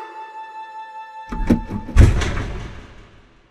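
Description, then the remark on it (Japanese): The door of the Green Gables house opens with a short rattle and click, then a heavier thunk that fades out. A faint steady hum plays in the background before it. “この扉の向こうに幸せが待っているんだわ。”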